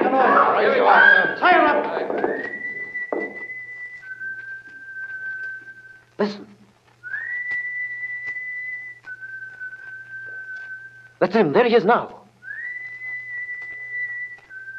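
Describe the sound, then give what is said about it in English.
A whistled signal from Holmes sounds three times, each a rising note held steady before dropping to a slightly lower sustained tone. People speak briefly at the start and between the whistles. “Holmes, that's him. That's the signal.”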